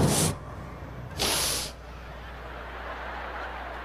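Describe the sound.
Two short bursts of a voice imitating the hiss of pepper spray, the first brief and the second longer and sustained, both fairly loud, followed by a quiet, steady low hum.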